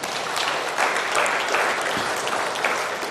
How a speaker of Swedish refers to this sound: Det är väl värt en applåd till Jesus, hörni.